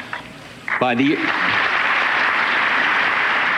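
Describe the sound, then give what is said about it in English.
Steady, dense applause from an audience swells up and holds loud for several seconds, with a brief voice speaking just as the clapping begins. “The crowd pushes him to applause, and he just kind of accepts it.”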